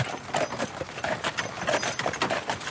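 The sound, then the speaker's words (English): Two horses' hooves clip-clop in a quick, steady rhythm as they pull a two-horse wagon being driven through a forest, the sharp knocks repeating many times over a faint rattle of harness and wheels. “Now I feel good because you have two horses in front of you and you can drive them.”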